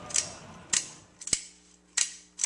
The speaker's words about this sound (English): that they searched people at the gates for their Kodaks, that's what cameras were called, and made people pay a steep fee to use them at the fair, to keep the number of shutter clicks down, to control this sound.